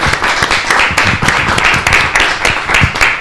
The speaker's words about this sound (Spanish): Un placer. ¡Aplauso! ¡Aplauso!